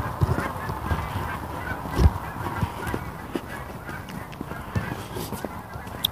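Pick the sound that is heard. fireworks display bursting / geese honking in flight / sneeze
geese honking in flight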